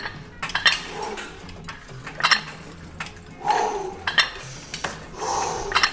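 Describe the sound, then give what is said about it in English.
Weights clinking and clanking as they are lifted: several sharp metallic knocks at irregular intervals, with a few softer scraping bursts between them and no talking. “Let me just lift a couple more weights.”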